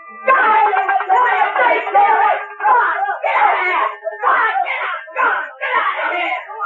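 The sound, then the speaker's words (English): Loud voices of people running and screaming as they drive off rats, yelling in frantic overlapping bursts separated by brief pauses, with no other sounds underneath. “Sam and Mac were running, screaming, driving off the rats.”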